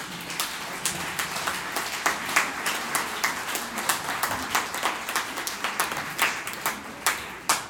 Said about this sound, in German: Vielen Dank an dich, liebes Publikum. Ihr könnt gerne mal klatschen vor euch.